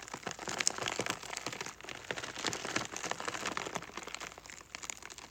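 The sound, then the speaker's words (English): Iceberg lettuce pressed down and rolled on a table makes a dense, crinkly crackling that surges in waves, imitating windy rain coming down in sheets on a tent. It is steady, with no talking. “Just iceberg lettuce. So what I'm doing is I'm just pressing down and rolling the lettuce on the table.”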